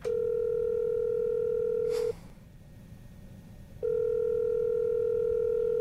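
A steady, low-pitched telephone dial tone hums loudly while a call is placed to tell a contest winner he has won; it cuts off after a click for a short quiet gap, then returns unchanged. No one speaks.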